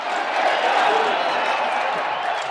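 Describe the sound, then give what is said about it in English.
A dense, steady roar of a packed crowd at a newly minted stadium, cheering and applauding as Donald Trump is about to address them. It is a continuous wash of many voices and claps at a constant loud level, with no distinct individual speaker. “Donald Trump is about to address the crowd here at this newly minted stadium. It's pretty packed, and he's about to start.”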